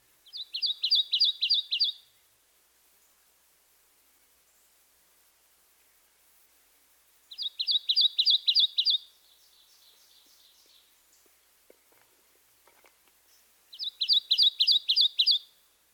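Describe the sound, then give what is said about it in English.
A Kentucky warbler sings three times, each song a quick run of about six loud, clear two-noted chirrups, with several seconds of quiet between songs against faint background hiss. “First, the Kentucky warblers, two-noted, chirree, chirree, chirree, chirree.”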